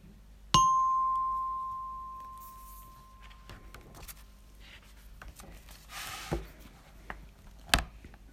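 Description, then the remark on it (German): A single bright chime, the signal to turn the page in a read-aloud children's story about a little Easter chick, strikes once and rings out as a clear, sustained tone that slowly fades over a couple of seconds, followed by faint soft rustles and a couple of light taps. “Immer wenn ihr dieses Geräusch hört, müsst ihr eine Seite weiterblättern.”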